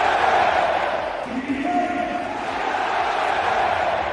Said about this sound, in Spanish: Bueno, pues el francés el viernes fue fundamental en la victoria de su equipo y así gritaba el Parque de los Príncipes.